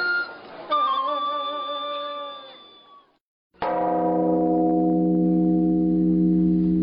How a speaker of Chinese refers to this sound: 天色慢慢黑了下来，在依稀的月光中，磨空岭上幽冥中庭的钟声响彻九华群山。